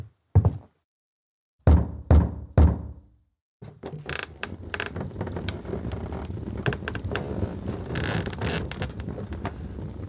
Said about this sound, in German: Um Mitternacht klopft er an Artowskis Labortür mit einer Flasche von feinstem Cognac in der Hand.